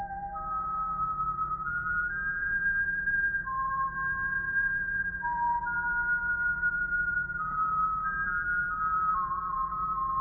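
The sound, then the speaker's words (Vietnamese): A soft, airy flute played by the Buddha plays a slow, wandering melody of long sustained notes, alone and unhurried, with a faint low hum beneath it. “Phật bắt đầu thổi sáo.”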